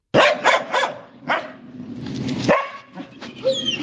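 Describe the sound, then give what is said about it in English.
A medium-sized Bohemian shepherd dog, a long-haired Czech herding breed, barks sharply several times in quick bursts, loud, then lets out a few higher yips and whimpering whines toward the end. “The Bohemian shepherd is a medium-sized dog with long, thick fur and a rich undercoat, which allows it to survive in harsh weather conditions.”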